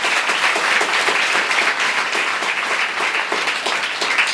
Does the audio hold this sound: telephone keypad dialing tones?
no